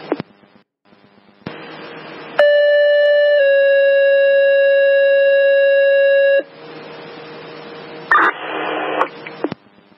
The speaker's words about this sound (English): fire alarm striking a box, 1201 Main Street